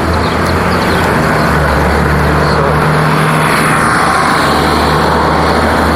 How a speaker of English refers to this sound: Didn't clip when trucks went by on the street and so forth.